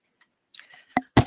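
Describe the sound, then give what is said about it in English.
A few sharp clicks on a screen as someone tries to advance presentation slides, irregularly spaced with faint handling noise between them and no one talking. “I'm not used to this system either, and I am clicking on the screen and I am not getting my slides.”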